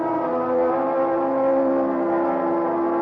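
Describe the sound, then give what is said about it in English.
A car cruises at speed on a highway with light traffic, a steady engine drone with a constant, humming pitch, loud and continuous with no talking. “Thanks to an excellent highway and light traffic, I made good time through Santa Monica, then Santa Barbara, even past the famous Pismo Beach.”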